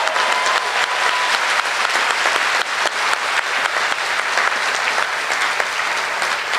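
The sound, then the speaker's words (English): Sustained audience applause, a dense, steady wash of many hands clapping at an even loudness for several seconds, with no voices standing out above it. “A round of applause for this person.”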